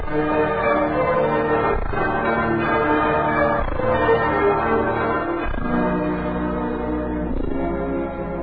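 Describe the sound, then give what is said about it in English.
A large bell, a new Liberty Bell being dedicated, rings loudly in a slow, steady rhythm, struck about every two seconds, its deep resonant tones overlapping and sustaining between strikes with no voices. “Ladies and gentlemen, to carry on with our dedication of our new Liberty Bell”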